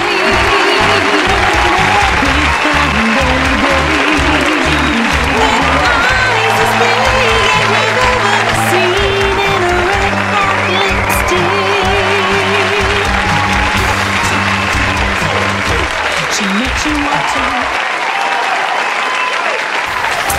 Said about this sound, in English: Don't you just love it when you get all that applause? I love it. I love it. I actually love it so much. I just have it on demand. I can push a button, and then I get it.